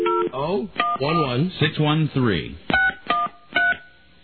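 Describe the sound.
Short, steady two-tone telephone keypad beeps, about five or six of them at uneven intervals, dialing an international call to Don and Mike's Chinese American restaurant in Australia, with a voice talking between the first few presses.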